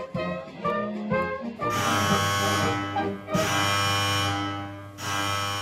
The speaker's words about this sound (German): Alarm in der Festung Schönambourg. MG-Schützen auf die Posten, Ziel in 150 Metern Entfernung, Feuer.